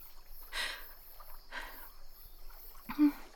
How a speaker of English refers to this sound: The way your body glistens as you wade into the pool is exciting me.